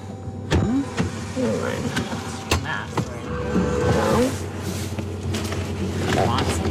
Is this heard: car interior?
yes